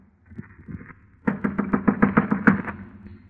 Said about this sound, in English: I clenched my teeth, my knuckles, and knocked on the door.